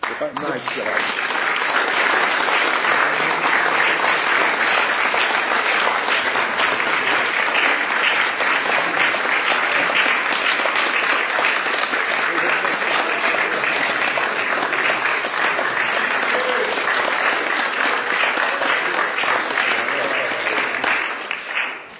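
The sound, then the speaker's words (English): Sustained applause at a Planning Commission meeting for the team behind a document fills about twenty seconds, a dense steady wash of many hands clapping at an even, loud level before it tapers off at the end. “I just want to emphasize once again, it's part of the team that we're clapping for, as well as”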